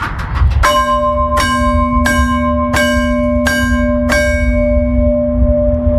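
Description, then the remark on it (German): Train announcement bells of Gaumitz, mounted outside a railway signal box and now worked by remote control, strike six times in an even, steady rhythm. Each clear, loud metallic tone rings on and slowly fades after the last stroke, with no voices. “Jetzt hören wir die abläuten Glocken von Gaumitz. Sie tönten so.”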